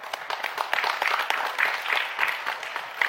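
An audience claps together, a dense, steady patter of many hands that holds at an even, moderate loudness for about three seconds, with no voices over it.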